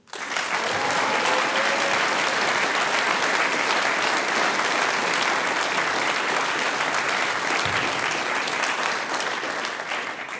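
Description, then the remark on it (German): Sustained applause from a large audience at a singers' and musicians' meeting for a group, a dense steady wash of clapping hands that stays loud and even for about ten seconds without any talking. “Großen Applaus für den ….”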